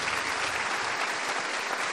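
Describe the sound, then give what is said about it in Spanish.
Steady, dense applause for the Lord from a Sunday worship audience, a continuous wash of many hands clapping at an even loudness throughout, with no voices standing out. “Un aplauso al Señor, El domingo Cristo resucitó.”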